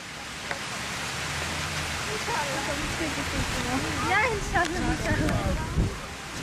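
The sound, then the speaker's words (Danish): Water runs steadily from a tap as it is fetched for a drunk man, a constant hissing rush. Partway through, voices murmur faintly beneath the flow. “Så nu henter jeg noget vand.”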